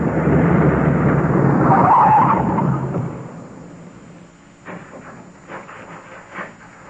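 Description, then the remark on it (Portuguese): A police chief's car brakes hard to a stop, its engine rumble and a brief tire squeal loud for about three seconds, then settling into quiet broken by a few faint knocks. “Pare! Pare o carro, seu delegado.”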